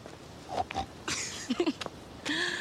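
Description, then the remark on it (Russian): A girl imitates a pig with a quick series of breathy snorts and short squealing grunts, spread irregularly over a couple of seconds with no words spoken. “И она неизменно хрюкала мне при встрече.”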